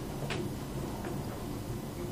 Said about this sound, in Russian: это кулер там, да, звучит.